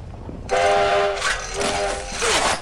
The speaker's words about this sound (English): Steamer pulls on the whistle as Smokey shovels coal into the engine. Steamer pushes a lever and the train edges forward.